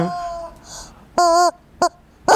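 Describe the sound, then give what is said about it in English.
A chicken squawks several times in a row, with loud, nasal calls, one drawn out and the others short, separated by brief pauses. No one talks. “The chicken does too. You hear that there voice?”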